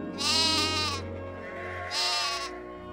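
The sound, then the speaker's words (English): Two wavering sheep bleats sound loud, one after the other with a short pause between, no voices present. “Abel became a shepherd. All day long, he would follow his flock of sheep.”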